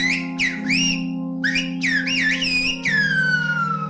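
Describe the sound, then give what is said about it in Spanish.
A person whistles a run of loud phrases in Silbo Gomero, the whistled language, with sliding, warbling pitch contours rising and falling like speech melody, ending in a long descending whistle, over a steady low hum. “Espera, que te lo digo también en silbo. ¿Te acuerdas cómo sonaba? En silbo gomero.”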